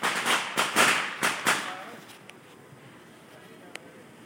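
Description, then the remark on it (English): Fireworks crackle and sizzle outdoors at night in a dense burst of sharp pops for about two seconds, then fade to a quiet hiss with a few isolated pops. “We're going to try to get some fireworks out here.”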